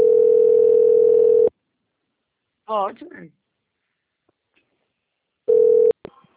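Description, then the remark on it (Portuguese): A steady, loud telephone dial tone hums for about a second and a half, stops, then returns briefly after a short spoken word in between, cut off abruptly with a click. “Estou com o telefone.”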